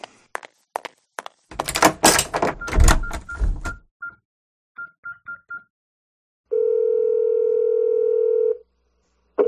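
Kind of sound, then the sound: household object, door closing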